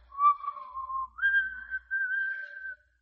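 The character Red Lantern whistles a slow phrase of the wedding march, a few held notes rising to a higher sustained pitch, clear, with no talking.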